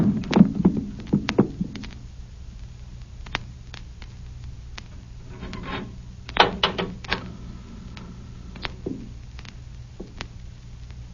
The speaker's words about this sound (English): Come up to this here cupboard door. I'll drive something in there. Here, this knife. This'll do it. That'll hold up.